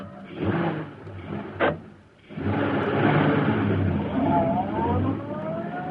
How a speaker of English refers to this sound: As Bleeker's car swung into the street and turned toward Schaefer's parking lot, a huge, sleek black car started along behind them. It was the car of the Green Hornet.